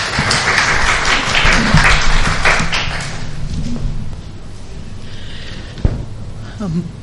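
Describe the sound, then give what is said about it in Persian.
Audience applause at a lecture event hosted by Khaneh Andishmandan (House of Thinkers), welcoming a speaker to talk on the Jameh Mosque of Isfahan and the Pamenar Mosque of Zavareh: a dense, steady patter of many clapping hands, strongest in the first few seconds and then thinning, with a sharp thump near the end. “با تشویق های شما خواهش میکنم.”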